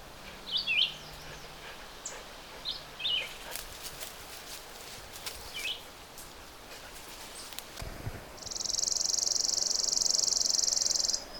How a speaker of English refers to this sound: That sort of, not really insect-like, but kind of a tight trill. Not very musical. It's a chipping sparrow. And we're hearing it in this kind of wild place.